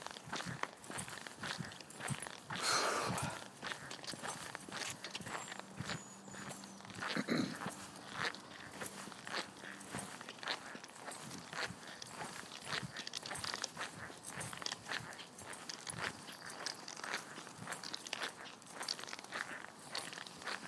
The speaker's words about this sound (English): We both got squeaky shoes on tonight.